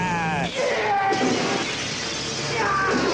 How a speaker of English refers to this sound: Mirrors smashing.